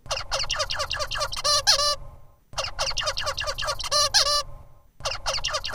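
A genetically mutated zebra finch sings a squeaky, nasal chirping phrase, repeating the same rapid string of honking notes three times with short pauses, over a faint low hum and no talking.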